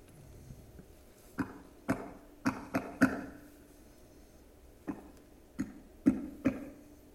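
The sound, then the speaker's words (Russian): A coded knocking pattern on a door, the secret signal Grushenka is to knock at night: two spaced knocks, then three quick ones, a pause, and another run of four knocks. The knocks are hollow and fairly loud, with no voices. “Знаки повтори, как Грушенька должна изверу ночью постучаться.”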